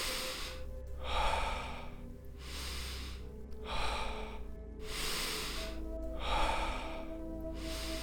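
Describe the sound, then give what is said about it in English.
Slow, deep breaths drawn in and pushed out in a steady rhythm during a peaceful-breathing exercise, about four full cycles of airy inhales and exhales, moderately loud, with a low hum underneath and no talking. “Peaceful peaceful breathing.”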